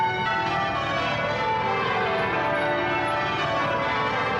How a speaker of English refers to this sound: The sound of bells from Westminster Abbey, the site of the coronation, as well as the bells of tiny churches all across the English countryside.